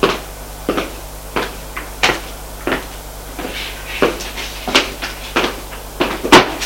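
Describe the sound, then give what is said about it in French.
A door is opened and closed as a woman lets people in and shuts it, with a series of sharp wooden clunks and knocks at an irregular pace, over a faint steady hum, with no one speaking. “Elle ferme la porte.”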